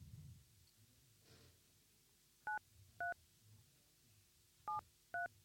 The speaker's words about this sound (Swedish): Inte prata med mig när jag försöker slå in ett telefonnummer.